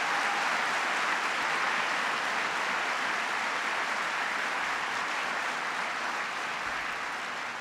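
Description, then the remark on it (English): A large crowd applauds John Kerry, a dense wash of clapping that stays loud and even for several seconds without easing off. “Please give John Kerry a round of applause.”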